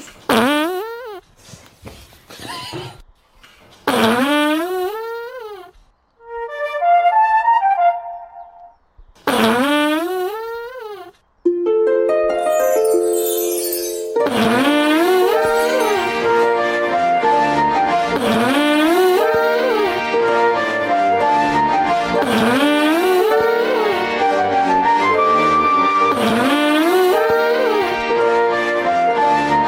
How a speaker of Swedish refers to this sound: För det är så här, den är från början är så här, så här kan ju fisa låta ibland. Och så när man tar det i slow motion så blir det så här.